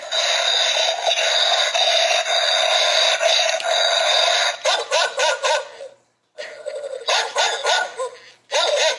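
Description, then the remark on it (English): A Halloween skeleton dog toy barks loudly with a tinny, electronic tone, first in a steady stream and then in rapid repeated bursts after a brief pause. No one speaks. “Hey, bring my dog in here. It is October. My skeleton dog.”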